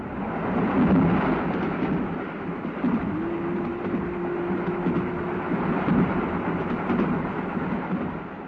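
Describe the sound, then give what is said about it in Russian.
A train rumbles along steadily past a semaphore signal, with a dense, continuous roar of wheels and carriage noise. A low sustained tone rises out of the din for a few seconds midway, and no one speaks. “Когда поезд миновал семафор, пассажир отворил дверь вагона и по сквознячку провел девушку в коридор.”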